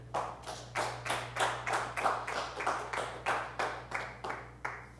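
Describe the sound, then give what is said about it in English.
An audience claps hands to the Lord in a steady rhythm, about two claps per second, the sharp bursts running continuously over a low background hum with no talking. “How many could clap your hands to the Lord?”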